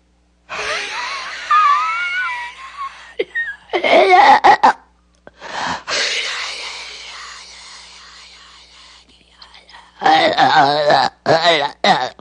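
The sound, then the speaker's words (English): Close to the microphone, a voice imitates the devil's strained, demonic breathing as described in Blatty's book: several long, raspy, groaning exhales forced from empty lungs, broken by sharp gasping bursts and brief silences. “But Blatty says in the book it had an unearthly sound, the devil's breathing, that could be heard through the open door.”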